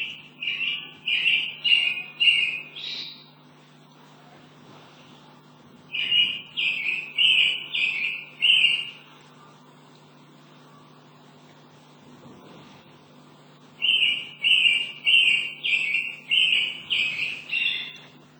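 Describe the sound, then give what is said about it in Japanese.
A mockingbird, a bird found throughout North America, from California north to Alaska, sings in three bursts of rapid, repeated chirping phrases, separated by short pauses, clear over a faint low hum. “ですからアメリカ、北アメリカ全土で見られる鳥として、有名になっている、コマツヌミの声をお聞きください。”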